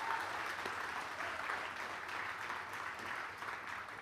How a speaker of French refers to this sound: C'est vraiment un jour de fête, je suis vraiment content. On peut déjà applaudir les baptisés.